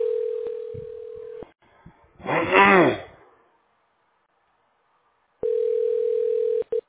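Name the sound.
telephone ringing tone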